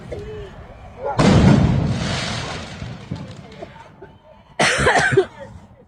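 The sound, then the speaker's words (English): Two loud fireworks bangs burst out a few seconds apart at a protest, the first rumbling and fading slowly, the second sharper, over a noisy outdoor crowd with voices in the background. “Ton of fireworks.”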